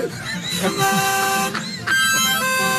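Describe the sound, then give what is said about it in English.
A horn honks in a few loud, sustained blasts, each a bright, buzzy tone separated by brief breaks, with a rumbling background underneath. “The horn's the best part. I love the horn.”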